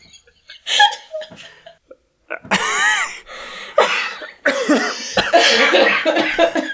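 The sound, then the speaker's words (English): A person laughs in short, breathy bursts that roughen into harsh coughs and throat clearing, loud, with the laughter and coughing blending together over several seconds. “Okay, so what's going to be a problem here is that when you laugh and you borderline cough, I have to take out your coughing, and it doesn't sound like you laugh, except now I'm going to have that same problem.”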